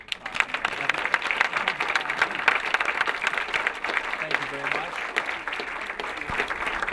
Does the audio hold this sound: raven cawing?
no